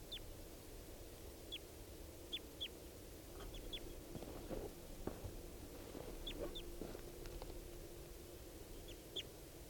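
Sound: birds calling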